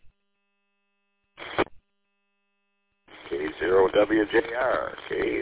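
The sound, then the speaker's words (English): Crackly radio static over a narrowband VHF FM two-way radio transmission between amateur radio stations: a brief squelch burst, a pause, then a garbled voice breaking through with faint frying-like hiss running under it. “There's a little bit of bacon frying in the background, but that's just the setup you're using.”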